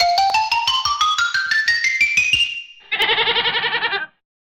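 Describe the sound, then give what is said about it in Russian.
A rapid pulsing tone climbs steadily in pitch, then a single loud, quavering goat bleat follows, clear for about a second before cutting off. No one speaks. “Спой нам песенку, коза.”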